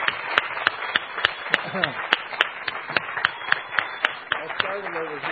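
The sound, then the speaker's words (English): A small group at a sermon claps in a steady, fairly even rhythm for several seconds to thank a man for bringing something on board. The claps are sharp and distinct, with faint voices murmuring underneath. “so let's give him a round of applause for bringing this on board.”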